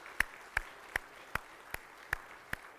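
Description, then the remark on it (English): Applause from a standing audience in a steady, even rhythm: seven sharp, evenly spaced claps, each a crisp slap, moderately loud against a quiet background, with no talking. “Since y'all been seated a while, let's stand and clap for them, and then that'll loosen you up a little bit too.”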